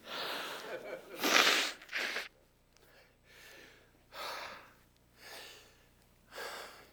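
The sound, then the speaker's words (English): A preacher blows his nose during a sermon in a series of noisy, breathy bursts: two strong honking blows first, then several softer snorting puffs with short pauses between them. “Allow me to blow my nose.”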